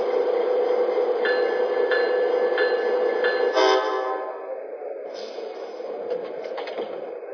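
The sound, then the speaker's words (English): The Texas Eagle passenger train, number 421 on track 1, rumbles steadily past the platform at Lincoln station with faint regular clacks, a brief tonal squeal near the middle, then the noise eases slightly and continues; no voices. “Chicago on track 1, train number 421, the Texas Eagle.”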